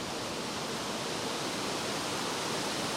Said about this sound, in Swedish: Så en inbjudan kan ju vara att bara men sätta ner och lyssna på vindens sus genom trädkronorna.